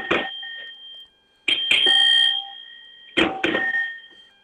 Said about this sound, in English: It's an old rusty weird bell. I don't know what this is.